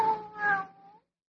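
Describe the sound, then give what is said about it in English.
A single drawn-out cat meow, fairly loud, rising then trailing off with a slight wail over about a second, followed by silence. “Will you listen, Kitty?”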